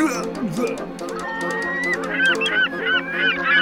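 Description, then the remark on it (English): A flock of seagulls squawks continuously, many harsh overlapping calls, fairly loud, with sharp cries piling on top of one another for the whole stretch. “There are thousands of seagulls eating centipede's vomit.”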